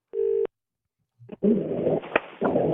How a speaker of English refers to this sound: So it's on now. Let me call my Ramadan guy. Let me call my Muslim guy. He's a doctor? He's a doctor. It's ringing.